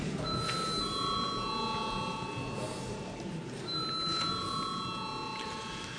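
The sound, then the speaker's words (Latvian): An electronic chime-like bell sounds twice in a parliamentary chamber before a vote, each ring a sustained multi-tone electronic ding lasting a couple of seconds, over a steady murmur of room noise and voices. “Paldies, lūdzu zvanu.”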